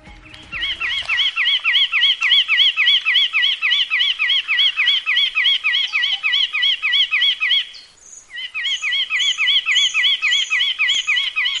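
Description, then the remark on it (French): A Kabylie nuthatch, a bird species endemic to the wilaya of Djeddah, calls in a fast, steady run of sharp repeated notes, briefly pausing before the rapid chattering resumes. No wing flapping is distinct, and no one speaks. “Avec un inventaire de plus de 160 espèces de faune, la wilaya de Djeddah est le terrain de prédilection d'une espèce d'oiseau endémique, en l'occurrence la citelle kabyle, peu ou prou connue du grand public.”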